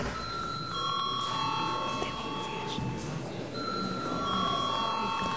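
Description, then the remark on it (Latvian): A sustained electric bell rings steadily for several seconds in a parliament chamber, calling a break in the session, its bright metallic tone over a low murmur of voices and background bustle. “Tā kā mums pēc 3 minūtēm ir pienācis laiks pārtraukumam, es lūdzu zvanu.”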